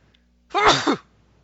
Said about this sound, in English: Sorry, guys, I sneezed off air. Okay. That's what it took to shut me up.